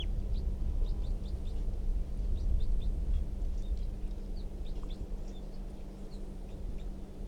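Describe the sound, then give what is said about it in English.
Faint, high chirps of a wild bird in a tree come in scattered short bursts through a steady low rumble of background noise, thin and intermittent rather than a full song. “That wild bird, I think, is still in the tree, but it's very quiet, and the decoys are also very quiet.”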